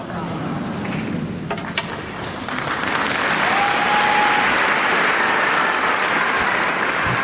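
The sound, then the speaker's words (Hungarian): A large crowd breaks into sustained, thunderous applause thanking the Holy Father (the Pope) for his catechesis; it swells and stays dense and loud throughout, with a faint voice murmuring beneath the clapping. “Kedves Mária Rádió hallgatók, ahogy szokás, nagy vihar tapsal köszönjük meg a Szentatyának a mai katekézisét.”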